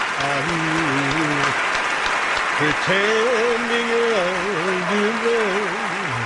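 Steady, dense audience applause fills the whole stretch, loud and unbroken, while a voice holds long, wavering wordless notes over the clapping.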